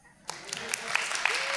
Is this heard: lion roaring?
no